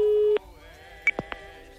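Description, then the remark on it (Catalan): A steady electronic telephone ringing tone of an outgoing call hums for a brief moment, then cuts off abruptly, followed by a few faint clicks and quiet line noise. “Ramon, truca'm a la Lloll, sisplau. És aquest el telèfon?”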